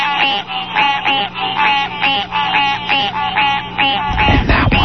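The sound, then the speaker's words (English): A dense chorus of gray tree frogs and chorus frogs, residents of Galveston Bay's coastal woodlands: loud, rapid pulsed trills repeating in overlapping waves, with a burst of rougher noise near the end and no voices. “It's the Frog Symphony, Gray Tree Frog Constrictors, Chorus Frog. All are residents of Galveston Bay's coastal woodlands.”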